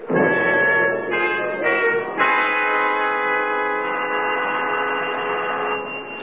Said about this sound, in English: Doesn't seem to be an answer. We'll go downstairs and wait for him. I think he's home. He doesn't answer the bell.